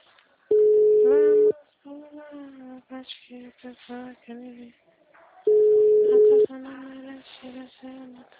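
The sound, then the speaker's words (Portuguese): A steady telephone busy tone beeps twice, each beep about a second long. In between and after the tones, a recorded voice message in Portuguese says the phone is busy and asks the caller to wait a few minutes before calling again. The sound is clear. “mensagem gratuita de telefone ocupado. Aguarde alguns minutos para voltar a ligar.”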